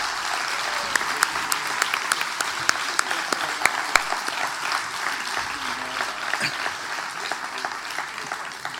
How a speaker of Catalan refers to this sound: I enguany celebrem la gala aquí, a la Societat Recreativa El Retiro, i penso jo que un dels primers aplaudiments hauria de ser per aquesta entitat, per acollir-nos un cop més i sobretot pels seus 50 anys.